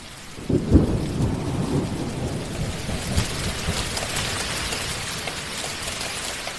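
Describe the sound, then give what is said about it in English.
A deep rumble of thunder breaks near the start, then a steady, dense roar of heavy rain hisses on without letup in a forest, with no voices. “It comes at you like a wall of water.”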